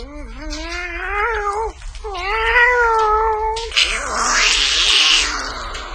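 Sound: cat meowing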